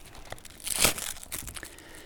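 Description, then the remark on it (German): Crisp paper crinkling with a burst of louder rustling in the middle, followed by softer scattered crackles. No voices are heard. “So, das war's. Papier.”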